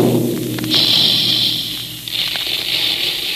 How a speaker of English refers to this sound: That's the sound you hear when the big Quaker guns are making puffed wheat and puffed rice.